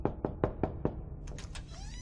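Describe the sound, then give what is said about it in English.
Five quick, evenly spaced knocks on a wooden bedroom door, fairly firm, followed by a brief faint rustling or scraping sound. “He stumbled out of bed and was splashing water from the bedside pitcher onto his sleepy eyes when a knock came at his bedroom door.”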